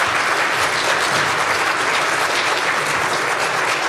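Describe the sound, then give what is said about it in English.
A crowd applauds steadily, a dense, even wash of many hands clapping at a constant loud level throughout, with no pauses or voices breaking through. “The applause is completely appropriate here.”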